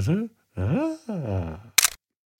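Three drawn-out vocal sounds, like humming or groaning, are followed by a single sharp camera shutter click as a photo is taken of a blank sheet of paper, then silence.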